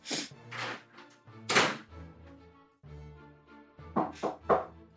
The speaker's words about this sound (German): Also könnten Sie vielleicht vorher noch mal kurz klopfen, bevor Sie reinkommen?